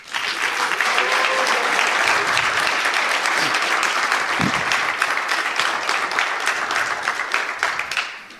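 An audience claps steadily for about eight seconds, a dense, even patter of many hands that holds at a strong level before thinning out at the end.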